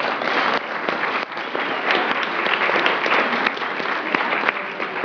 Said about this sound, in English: Let's have one more round of applause.